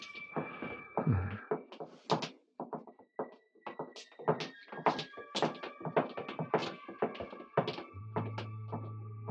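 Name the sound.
footsteps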